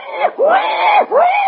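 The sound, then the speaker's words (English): A human voice imitates a wild boar's cry with rising and falling squealing wails, two long loud swoops broken by a short gap, unaccompanied. “The cry of the wild boar.”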